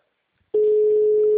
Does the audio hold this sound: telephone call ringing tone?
yes